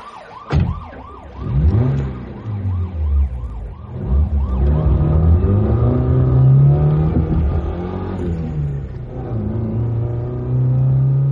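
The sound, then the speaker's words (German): A car engine revs hard and accelerates as the driver presses the pedal hard to catch up with a car ahead, its low drone climbing steadily in pitch, while a loud wailing siren sweeps up and down over it throughout. No one speaks. “Ich drückte kräftig aufs Pedal.”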